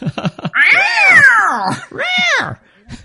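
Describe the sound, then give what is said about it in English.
A cat lets out two loud, drawn-out yowls that rise and fall in pitch and sound pained, the first long and the second shorter, after a few brief sounds. “Which always just makes me think of the cat being hit.”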